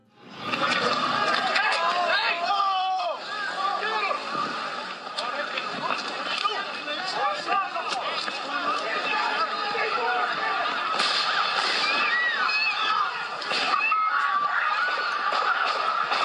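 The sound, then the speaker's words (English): Several sharp, cracking bangs ring out at irregular intervals, a few seconds apart, over a loud, steady wash of crowd noise and overlapping voices. “Those are gunshots, people. Those are gunshots.”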